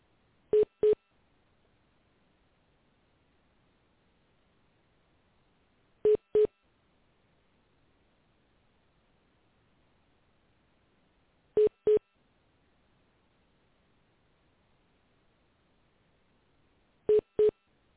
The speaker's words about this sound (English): my phone is ringing. I don't know how to answer that.